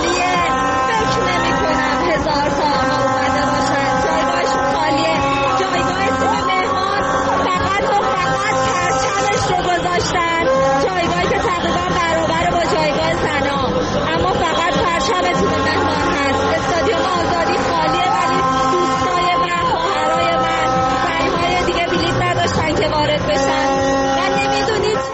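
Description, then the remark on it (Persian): A crowd of women football fans at Azadi Stadium screams and whistles nonstop, a loud, dense wall of high-pitched shrieks and shrill whistles layered over a steady roar of voices that never lets up. “نمی‌تونه صدای من بین این همه صدای جیغ و سوتون را بشنوین یا نه؟”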